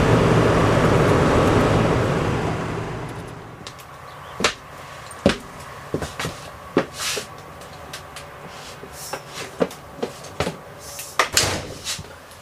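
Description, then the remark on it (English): A steady rushing of wind on a very windy night fades out, followed by a string of sharp, irregular whacks and knocks as objects on the roof, right behind the cab, are blown against the top of an ambulance, some louder thuds, others lighter taps. “I'm headed to just when the wind just gets just right, they'll whack the top of the ambulance.”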